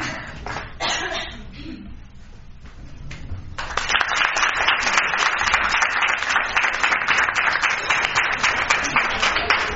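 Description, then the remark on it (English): An audience at a meeting applauds after a nominee for Director of the Department of Clubs and Organizations is approved: scattered claps at first, then a brief lull, followed by a steady, louder burst of dense clapping that carries on to the end. “We'll clap if you want to.”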